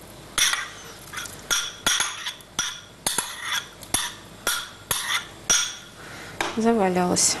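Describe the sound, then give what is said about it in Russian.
Leftover sliced cold cuts from the fridge going into a pot of solyanka soup: a steady run of about a dozen sharp knocks and clinks at an even pace, then a short burst of voice at the end. “А, самое главное, мы не положили остатки той нарезки, которая у нас где-нибудь в холодильнике.”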